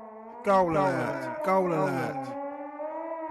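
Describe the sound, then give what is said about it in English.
A short goal-alert siren jingle, homemade on a phone: bright, buzzy wailing tones swoop up and down in two loud swells, then settle into a steadier, softer held note. “Goal alert. This is your goal alert.”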